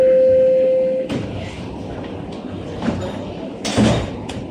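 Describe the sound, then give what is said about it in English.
A steady warning tone cuts off, then subway train doors slide shut with a rushing whoosh and a soft thud, followed by a heavier closing bump over low carriage rumble. “Please stand clear of the doors.”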